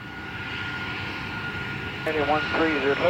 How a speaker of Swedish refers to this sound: Flight 9525 lyfter från Barcelona klockan 10.01 lokal tid. I flygplanet sitter det 144 passagerare, inklusive en skolklass från Tyskland.